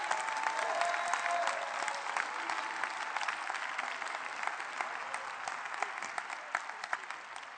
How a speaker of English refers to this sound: If you're grateful for the shed blood of Jesus Christ, shout it out by clapping your hands and saying, thank you, Lord, for saving my soul.